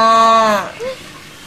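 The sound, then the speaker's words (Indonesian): A calf gives a single high, bleating moo, loud, lasting about half a second before trailing off, followed by a brief faint murmur; the calf is calling the others. “Hey, sapi kecil, panggil lagi yang lain.”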